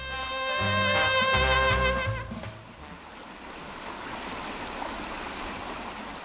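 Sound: river water flowing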